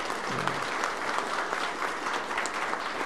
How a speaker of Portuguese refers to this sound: Uma salva de palmas aí para os dois aí.